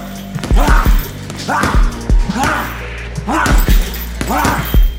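Punches thud into a heavy bag about once a second, five deep, solid blows in a steady rhythm, each paired with a short, breathy grunt, over a low background hum.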